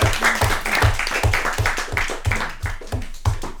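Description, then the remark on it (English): A round of applause from a group: dense, steady clapping with a regular thumping pulse beneath it, moderately loud throughout, with no one speaking. “I can see everyone absolutely transfixed on you, so I think a little round of applause even for just talking about it.”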